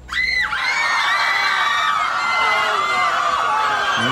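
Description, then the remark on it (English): A crowd screams continuously, many high-pitched voices overlapping into a loud, sustained wall of shrieks and yells that rises and wavers without a break for about four seconds. “Righto, a lot of screaming going on there.”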